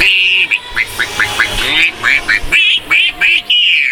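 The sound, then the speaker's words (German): A person imitates a duck with a rapid, steady run of about a dozen loud, nasal quacks, with no other talking. “Ein Bauernvogel, Blaukraut, Knödel und eine Soße und du machst das ja so.”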